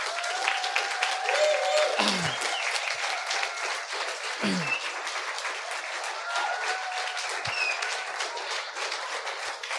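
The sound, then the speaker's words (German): A large audience applauds steadily for the whole stretch, a dense, sustained wash of clapping with a few whoops and cheers rising above it, applauding children and teenagers after their skit. “Also können wir den Jugendlichen und den Kindern nochmal einen richtigen Applaus geben?”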